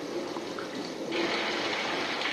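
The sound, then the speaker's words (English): Steady rain pours down in a dense, continuous hiss that swells slightly louder partway through, with no voices present. “Rain upon that planet Earth. And they rain.”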